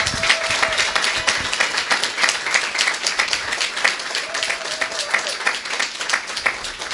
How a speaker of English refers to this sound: If you would stand, please. Do we have any veterans in the room? We do. Thank you. Everybody applaud.